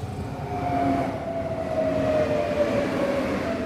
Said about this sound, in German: Ein Werktag, Ende August, 18.11 Uhr, Hirschbach Bahnhof. Der Pendlerzug aus Wien fährt ein. Es gibt nur ein Gleis, ein halboffenes Wartehäuschen, einen überdachten Fahrradständer und drei Sitze aus Metall.